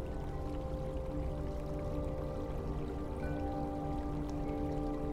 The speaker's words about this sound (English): Here, to your right, you will see the largest section of a subterranean river that runs through this cave network.